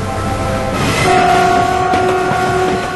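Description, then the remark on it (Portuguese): A train rolls steadily along the rails by the coast with a continuous rumbling clatter, and a sustained horn-like tone joins partway through. No voices are heard. “Seguimos de trem pela costa.”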